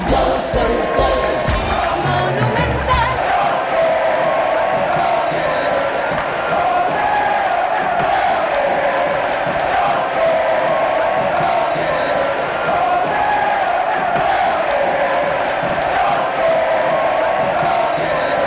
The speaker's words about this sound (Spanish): La ovación para Roque Santa Cruz, algunos haciendo el gesto de reverencia al gran ídolo de Olimpia.